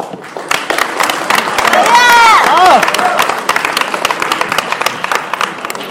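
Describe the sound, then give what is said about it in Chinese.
A large audience at a xiangsheng (Chinese crosstalk) performance of "Jie Ban Lun" by Yue Yunpeng and Sun Yue applauds steadily for several seconds, dense overlapping claps, with a brief shout or cheer rising above the clapping midway through. “谢谢，感谢您各位的掌声鼓励。”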